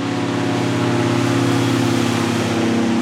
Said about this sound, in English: Next, an airboat comes buzzing down the river, carrying a strike team of Border Patrol agents.